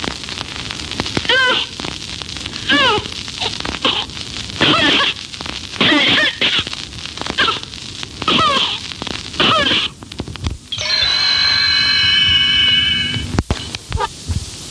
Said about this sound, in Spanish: Enfermedad fibroquística o fibrosis quística. Cuando la enfermedad hace acto de presencia en una temprana edad de la infancia, los niños frecuentemente no pueden llorar sin toser al mismo tiempo, tal y como se demuestra en esta grabación.